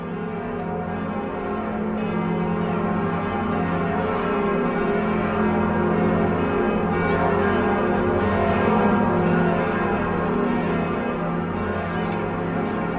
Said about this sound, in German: Die Glocken von Notre-Dame.